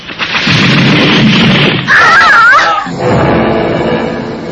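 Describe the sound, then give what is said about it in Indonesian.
A powerful slashing strike hits two fighters as they leap to attack, rendered as a loud, roaring burst with heavy low rumble, topped by a brief warbling screech midway, then a dull thud and a fading rumbling tail. No voices. “Tapi tiba-tiba, belum sampai keduanya ke arah sasarannya, sebuah sabetan dahsyat menghantam keduanya.”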